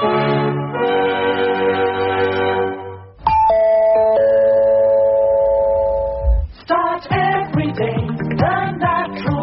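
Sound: doorbell ding-dong chime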